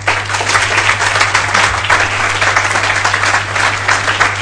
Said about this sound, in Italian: Un applauso.